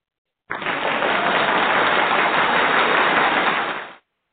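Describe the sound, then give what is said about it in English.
A steady burst of audience applause welcoming a guest to a show, dense and even, holding at a constant loudness for about three and a half seconds before fading out quickly. No voices are heard. “and let's welcome him with a wonderful, wonderful round of applause.”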